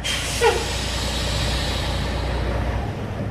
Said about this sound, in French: Ici, on est à Palin, on est à une trentaine de kilomètres à l'ouest de la capitale du Guatemala, Ciudad Guatemala. Et c'est là que les camions donc arrivent de toutes les coopératives. Il y a à peu près 62 qui sont affiliés.